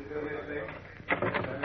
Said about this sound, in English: Watch it. I'm going to open another door to the hall.